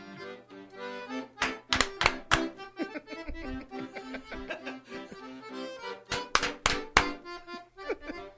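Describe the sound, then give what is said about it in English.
Accordion-style music plays steadily while sharp hand claps join in two short bursts, a few quick claps early on and another cluster later, loud and crisp over the melody. “Wait, the clapping's fucking him up.”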